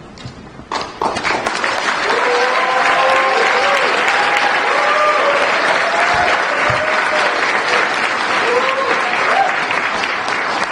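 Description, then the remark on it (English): Loud, sustained applause from a large audience at a ceremony where President Biden puts a ribbon and medal around Phil Donahue's neck, a dense wash of clapping that swells quickly after a brief quiet start and holds steady, with faint voices and cheers mixed in. “With that the round of applause and the big old signature Phil Donahue smile, President Biden put the ribbon and medal around his neck.”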